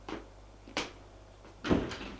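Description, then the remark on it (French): Elevator doors opening with a few short mechanical clunks and slides, moderately loud, the last one heaviest, with no voices. “Sortent de l'ascenseur.”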